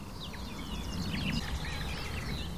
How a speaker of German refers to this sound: Und all diese Ablenkungen meiner Wahrnehmung lässt einfach diese Grasmücke vor mir singen und singen und singen. Boah, da waren Imitationen eben drin.